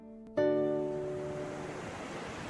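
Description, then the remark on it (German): Steady rushing stormy wind, the strong, cold Tramuntana, and surf noise at the seashore on the Spanish coast, with a sustained musical chord striking in just after the start and slowly fading over the windy backdrop. “Am Meer angekommen fallen sofort 2 Dinge auf. Die durchweg weißen Häuser und der stürmische Wind, die Tramuntana.”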